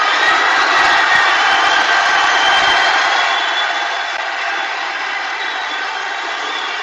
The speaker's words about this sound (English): Donald Trump, 40,000 scouts roaring their approval of their president. Here we go. Sounds like a jet taking off. The roaring.